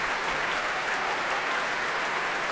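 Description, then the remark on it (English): The seated players of the Ulster Orchestra applaud soloist Stephen Osborne after his performance, clapping mixed with bows tapped on their music into a steady, dense patter of crisp hits that holds at an even level throughout, with no voices. “And back on stage now, alone this time, comes Stephen Osborne, turning to applaud the players of the Ulster Orchestra, who remain seated, clapping him, tapping their bows on the music to show their appreciation for his performance.”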